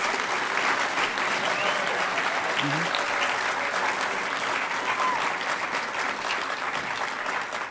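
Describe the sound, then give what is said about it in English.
A crowd applauds steadily and loudly for several seconds, a dense wash of clapping with no pauses, faint voices and cheers mixed in underneath, at the 9th Hackers on Planet Earth (HOPE) conference, the attendees applauding themselves. “If you had a great time, give yourselves a round of applause.”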